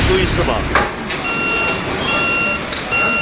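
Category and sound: vehicle, truck reversing beeps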